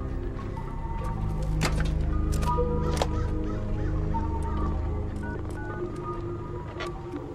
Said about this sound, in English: He picks up a phone sighted next to the gate and dials a carefully memorized number.